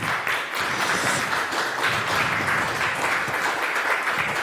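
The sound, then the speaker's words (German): An audience applauds a speaker at the end of a talk about the Pluggable Transports project, a dense, even wash of many hands clapping for several seconds at a fairly loud, constant level with no speech over it. “Einmal einen kräftigen Applaus, danke schön.”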